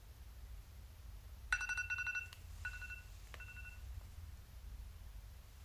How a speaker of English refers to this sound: Noticing the sound of timer going off. Noticing the sounds around.